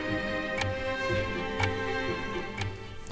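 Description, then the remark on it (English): A chess clock ticks steadily, with crisp, evenly spaced clicks about twice a second over a low background hum. It is counting Fischer's time after Spassky played pawn to queen four and pressed his clock. From the documentary Bobby Fischer Against the World. No one speaks. “You saw Spassky make his move, then he touched his clock, which turns his clock off, but turns his opponent's clock on.”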